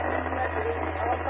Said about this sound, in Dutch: Oh, la la. Dat was de repeater Apeldoorn. Even het geluid uit.